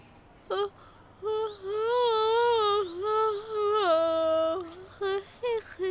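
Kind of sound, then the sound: human body sound, yawn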